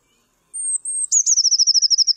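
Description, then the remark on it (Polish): A tit sings its two-part verse: two long, high, thin whistles, then a quick run of about a dozen slightly lower, metallic notes like a fast trill, clear against silence. “Jej piosenka wyraźnie różni się od śpiewów innych sikor tym, że pojedyncza zwrotka jest podzielona na dwie części.”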